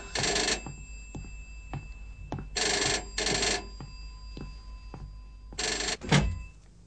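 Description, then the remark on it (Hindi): A telephone bell rings in short bursts, a single ring followed by paired rings, loud, with faint clicks in the pauses between and no one speaking. “आपका टेलीफोन बज रहा है।”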